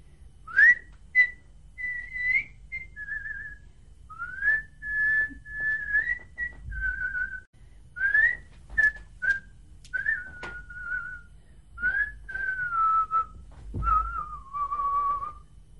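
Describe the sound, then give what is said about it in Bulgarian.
Someone whistles a simple melody alone, clear, with sustained notes broken by short chirpy leaps and steady phrases that drift gradually lower toward the end. “После той направи още една спирала и почна да си свирка и да поядисва небето.”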